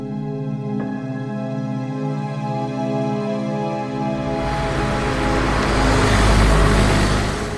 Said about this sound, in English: We're going to be late. That's because we're in a car that has trouble going downhill.